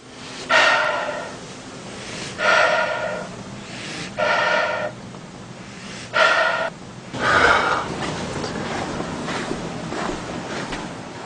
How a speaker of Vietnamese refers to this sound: Mấy phút trước đây, trong lúc chúng tôi đang ngồi thiền, bỗng nghe có hơi thở và tiếng chân nặng nề phía ngoài lều.